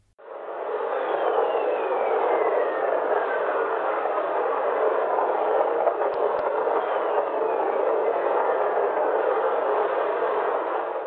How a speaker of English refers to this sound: The Voyager spacecraft picked up these whistlers caused by lightning in Jupiter's atmospheres as it flew past in the late 1970s. They can be heard faintly in this audio, just above the hiss, courtesy of the University of Iowa.